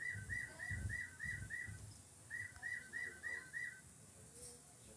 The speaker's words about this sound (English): There's a bird.